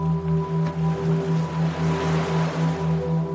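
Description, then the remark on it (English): Soft, distant waves wash gently toward shore in a low, breathy rush, set beneath a steady droning tone that pulses in a slow, even rhythm. No one speaks. “As your awareness increases and the energy in your body vibrates, you begin to hear waves, distant waves, crashing gently on the shore.”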